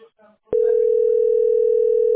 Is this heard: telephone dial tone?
yes